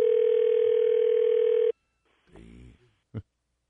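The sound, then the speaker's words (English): A telephone rings on the caller's end: one steady, loud electronic ringback tone for under two seconds, then it cuts off, a voice briefly answers, and a short click follows. “Usually, you know, it goes right to voicemail.”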